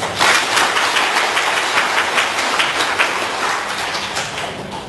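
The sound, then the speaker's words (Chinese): Sustained audience applause welcoming Buddhist Master Miaohua, a dense wash of many hands clapping steadily for the full five seconds, loud and even with no voices over it, fading only slightly toward the end. “那么让我们用最热烈的掌声有请妙华法师。”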